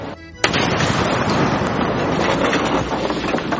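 A bomb hidden inside a cow goes off abruptly in a single loud blast after the cow hits the ground, followed by a sustained, roaring wash of rumble and crackling debris that fills the rest of the moment.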